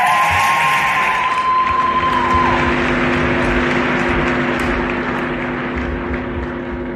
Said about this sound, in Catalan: Un fort aplaudiment amb tots vosaltres